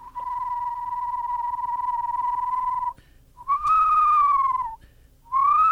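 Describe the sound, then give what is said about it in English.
A person whistles an imitation of an eastern screech owl's trill: a long, steady, quavering note, then a slightly higher wavering one, and a third beginning as it ends. Clear, no talking. “And you want the screech owl. And the screech owl. I can do that one, too.”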